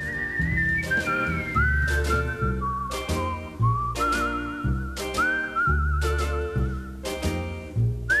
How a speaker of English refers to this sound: Lovely stereo there. The whistling's in one ear and the guitar's in the other ear. It's lovely, isn't it?